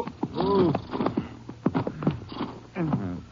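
A horse lets out a short, wavering whinny near the start, followed by uneven clip-clopping hoofbeats and snorts shuffling on hard ground as riders stop their horses to leave and tie them up in the mountains.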